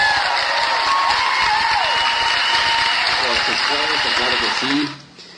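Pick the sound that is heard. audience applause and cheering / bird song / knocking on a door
audience applause and cheering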